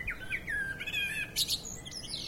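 blackbird singing

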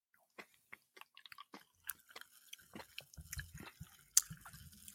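pouring a fizzy drink

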